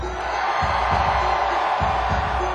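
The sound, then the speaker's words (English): A large crowd in Baltimore screams and cheers for peace in the Middle East in a loud, continuous roar that fills the whole moment, a dense wall of voices with no single speaker standing out. “So, I want to hear you scream for peace in the Middle East.”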